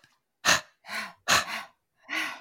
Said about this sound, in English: And let me show you the breath. It's going to be, all right, three breaths. So breathing in, hands together, give them a squeeze. Breathing out, turn the palms out.